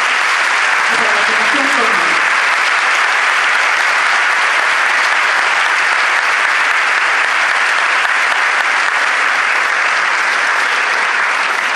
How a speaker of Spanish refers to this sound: Antes de comenzar, quiero pedirles a todos ustedes un fuerte aplauso para la organización Manifestación.